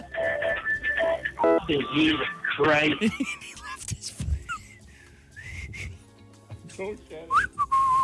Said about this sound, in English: is having a hard time whistling.